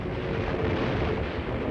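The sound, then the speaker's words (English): A dense, continuous roar of bomb explosions from a Nazi air attack scoring direct hits on supply ships in an Algerian port, with heavy low rumble and crackling noise blending into one sustained wall of sound, steady in loudness and without speech. “Supply ships burst into flames.”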